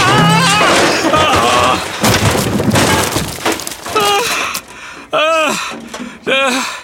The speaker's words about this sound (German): Oh nein, das darf doch nicht wahr sein. Jetzt ist die Schubkarre umgefallen und die Himbeerkörbe sind auf den Rasen geflogen. Oh je, das Platschgeräusch eben, das klang gar nicht gut.